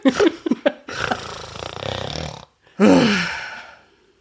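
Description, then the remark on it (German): A person grunts and strains with effort: a few short, low grunts, then a long drawn-out guttural groan, a brief pause, and one more loud rasping grunt that trails off. “Nicht grunzen, machen.”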